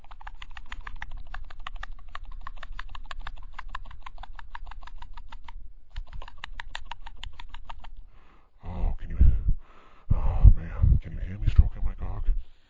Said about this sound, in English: Please listen while I place the microphone down next to my cock as I stroke it a little faster.